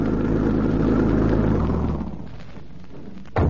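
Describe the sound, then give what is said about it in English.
A car engine rumbles as the car arrives, loud and steady with low harmonic tones, then drops in level as the vehicle slows and idles, ending with a brief burst of noise. “I think they're coming now. Doesn't that sound like their car?”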